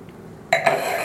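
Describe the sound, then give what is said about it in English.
After a brief quiet moment, a wine glass gives two bright, ringing clinks in quick succession, followed by a steady rushing wash of water as the glass is rinsed. “I'm gonna rinse this from the last one.”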